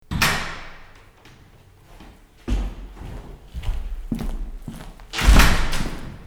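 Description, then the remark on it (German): One of the five doors of a half-timbered house built in 1858 opens with a creak and a handle clunk, followed by footsteps and bumps as someone steps inside into a hallway, ending in a louder thud as the door swings shut. “Und durch die eine davon gehe ich jetzt mal rein.”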